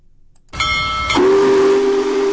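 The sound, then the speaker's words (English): The whistle of Big Boy, the world's largest operating steam locomotive (85 feet long, 380 tons), in North Lawrence on its cross-country tour, in light rain with about 200 people along the tracks, starts with a burst of hissing steam, then settles into a loud, deep, steady blast that holds for over a second, with no talking. “Big Boy, the world's largest operating steam locomotive, passed through Lawrence on its cross-country tour this morning.”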